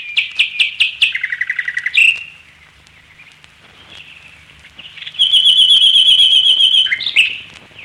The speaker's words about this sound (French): capable, dans sa retraite de Noisy-le-Grand, d'écouter pendant des heures un chant de rossignol monté dans la futaie.